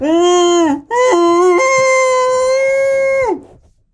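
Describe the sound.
A voice imitates the screams of a person being tortured, in a comedy bit with a cloth over a terrorist's head and water: two loud, sustained wailing cries separated by a brief gasp, the second holding steady and jumping up in pitch before cutting off.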